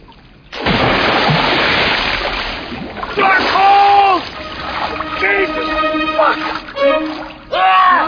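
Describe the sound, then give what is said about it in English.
A loud burst of water splashing and churning, like someone thrashing while swimming in deep water, then voices talking over softer sloshing water. “How's the water? Exhilarating. I'm in deep.”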